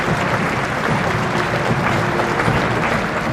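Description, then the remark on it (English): Sustained applause from a large crowd as the Queen's coffin passes in a funeral procession: a dense wash of clapping that stays steady and fairly loud throughout, with no voices standing out. “There were at times bursts of applause as the Queen passed, moments of appreciation for everything she'd done.”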